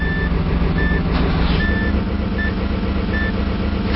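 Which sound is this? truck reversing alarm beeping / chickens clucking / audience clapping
truck reversing alarm beeping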